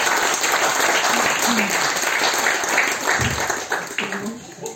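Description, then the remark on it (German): Sustained applause from a sizable audience for children after their nativity play, dense overlapping hand claps at a steady loud level, with a few faint voices mixed in. “Also da kriegt ihr nochmal einen Applaus von allen dafür.”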